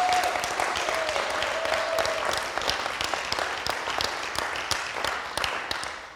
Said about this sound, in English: Can we say a huge thanks? Now, I want to ask, could we give her a huge round of applause?